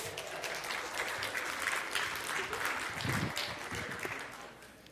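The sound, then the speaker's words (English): A crowd applauds steadily for several seconds, dense overlapping claps at a moderate, even level before tapering slightly at the end. “Give you guys a hand.”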